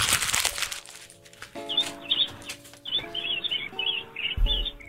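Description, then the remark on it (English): Several birds chirp and tweet in quick, overlapping bursts, lively, over a faint steady tonal hum, with a rush of noise at the start and a low thump near the end. “Did you just walk into a bird sanctuary?”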